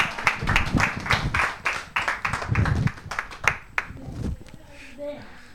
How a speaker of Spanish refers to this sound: Le damos un aplauso. Venga.